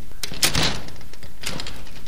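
A front door is opened with a rattling clunk of the latch and handle, followed about a second later by a softer knock as it swings, against faint background noise.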